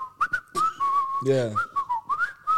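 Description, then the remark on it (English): Someone whistles a bouncy, upbeat melody while washing dishes, the clear tone stepping up and down in quick phrases, briefly interrupted midway by a short burst of voice. “So I'm whistling and I'm whistling an upbeat tune.”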